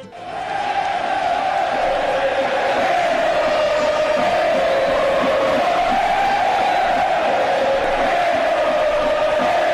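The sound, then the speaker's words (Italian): A huge crowd of more than 60,000 football fans roars and cheers without pause, filling the San Paolo stadium in Naples, Italy, to welcome a new player in July 1984, a dense, loud wall of voices with a steady chanting tone rising and falling slightly throughout. “Il 5 luglio 1984 la città subì una rivoluzione quando più di 60.000 tifosi riempirono lo stadio San Paolo per dargli il benvenuto.”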